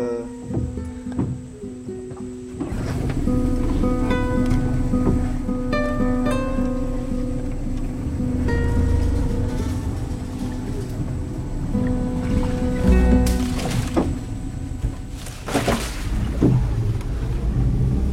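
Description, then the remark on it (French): A boat motor starts up a few seconds in and runs steadily, a low droning hum with whining tones over water, its pitch rising briefly near the end. “Bon bah là je remets le moteur, hein, on va casser un peu la ouais. Tranquillité.”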